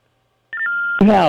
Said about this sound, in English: By the way, what the hell is going on with your phone? Do you use it as like a fax machine as well?